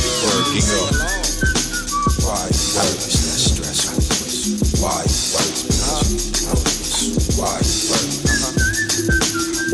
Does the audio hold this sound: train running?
no